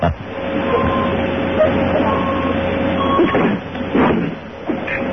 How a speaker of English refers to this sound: It sounded like a truck backing up. She must be in the parking lot.